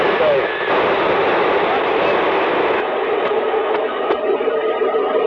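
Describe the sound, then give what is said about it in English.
A steady, loud wash of white noise hisses throughout, with faint whistling heterodyne tones threaded through it and a few brief clicks near the end. “And listen what it does to just plain old white noise.”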